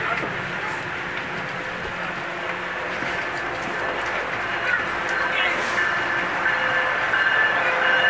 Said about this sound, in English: And there's another train going the other way, getting ready to pull out of the station.